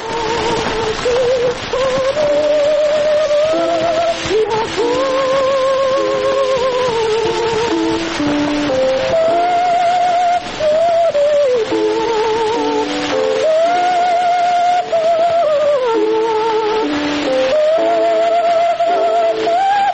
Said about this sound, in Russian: Из «Пиковой дамы» поет Медея Фигнер, ария Лизы из оперы «Пиковая дама». Вот такой мог услышать эту музыку Матисс в 1911 году.